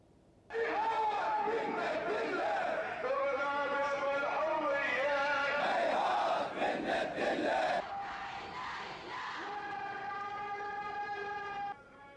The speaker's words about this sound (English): To Bahrain, where tens of thousands of demonstrators pour onto the streets to protest against the regime's crackdown on dissent.